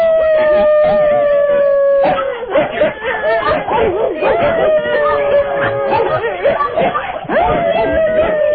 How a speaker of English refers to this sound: All these people have dogs. Wonderful. And they're all going to get the Lara Croft thing if everybody would get their dog to bark at the same time.